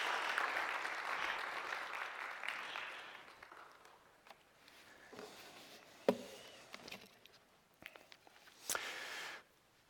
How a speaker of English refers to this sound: Can we give them one more round of applause and welcome them into the church?